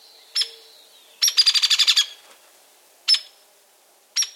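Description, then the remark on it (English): Young hairy woodpecker begging its parent for food while hitching along behind it on a mossy branch: sharp, high, harsh calls, one rapid burst of about eight quick notes amid three isolated single calls, loud and clear with no other sounds. “And here's another juvenile, a young, hairy woodpecker hitching along behind its parent on a mossy branch.”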